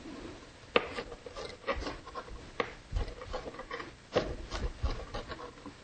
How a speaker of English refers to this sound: So again, with our bell peppers, we're just going to dice this up small like we did our celery pieces. So I'm just going to clean it up a little bit with the vein, just cut it out. Okay, So now we'll just begin by dicing our bell pepper.